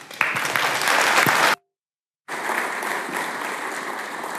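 Steady, dense applause from an audience at the FrostCon conference welcoming a speaker to a talk, a broad crackle of many hands clapping, cuts off abruptly for a moment of silence, then resumes at a similar level.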